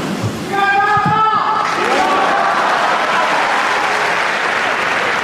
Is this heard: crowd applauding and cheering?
yes